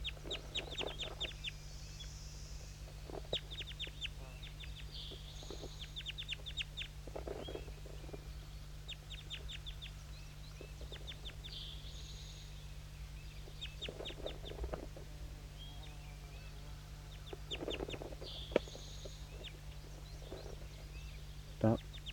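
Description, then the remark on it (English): Several birds call repeatedly in short, raspy bursts and clucking phrases, coming in clusters with brief pauses, over a steady low electrical hum. “Start recording all the birds.”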